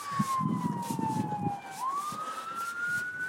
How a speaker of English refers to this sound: Ugh, damn it. Why are there sirens? You're ruining my groove.